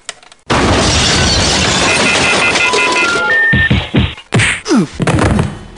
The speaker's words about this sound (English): pick up the phone and smash him one for me.